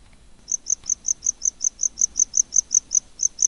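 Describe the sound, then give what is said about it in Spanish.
A tropical cricket chirps in a fast, steady series of short, high-pitched pulses, clear over a quiet background with no voices. “Este grilla de diferente manera. Está como acelerado, ¿no? Está como acelerado, este, sí. Este es un grillo tropical.”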